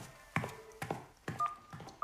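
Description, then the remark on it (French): A phone number is tapped out on a phone keypad to call a daughter: four button presses, each a sharp click with a short electronic tone, spaced about half a second apart. No voices. “En attendant, tiens, prends mon téléphone, appelle ta fille et donne-lui rendez-vous ce soir quelque part avec son petit copain.”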